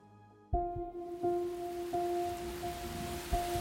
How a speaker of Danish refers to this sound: Regnen pisker ned, og vinden rusker kraftigt i træerne, da en ung kvinde bevæger sig afsted alene ud af en bakket og snoet landevej.